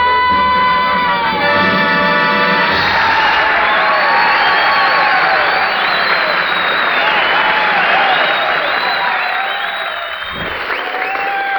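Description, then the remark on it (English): Loud, sustained applause from a large show audience for a female performer, with whistles and cheers rising over it, a dense steady roar that holds for several seconds before easing slightly near the end. “That, she got more applause than I did.”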